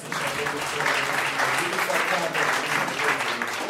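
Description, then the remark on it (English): An audience at a church service claps together in a steady, dense burst of applause, the crackling hand claps sustained at an even, fairly loud level throughout with a faint murmur of voices beneath. “So just a round of applause of defeating the devil and coming into the service.”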